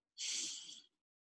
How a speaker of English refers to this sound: So we do this by just breathing. Breathing deeply through your nose